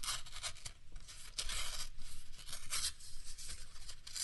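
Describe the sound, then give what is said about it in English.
A razor blade slicing through an index card, heard as a steady series of scratchy, rasping strokes with several sharper bright bursts, fairly loud and with no voices. “No, I'm cutting up an index card with a razor blade.”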